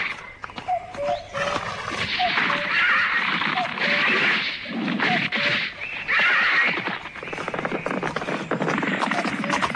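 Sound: arabian horse neighing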